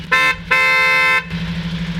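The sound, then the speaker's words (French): An electric horn honks twice, a short toot followed by a longer sustained blast, with an engine idling steadily underneath, at the end of a day of driver training. “Je suis un peu déçu niveau klaxon, ça fait un peu bruit de voiture quand même. Ce sont des klaxons électriques.”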